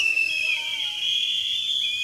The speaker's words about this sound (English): If you love the jungle, let me hear the whistle, massive.